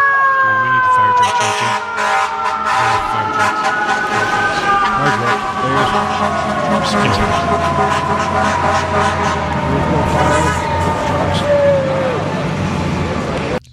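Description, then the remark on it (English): A loud fire truck siren wails steadily over busy traffic rumble, its pitch sliding slowly downward as the truck passes, with occasional horn blasts and murmuring voices. “What is that? Fire trucks.”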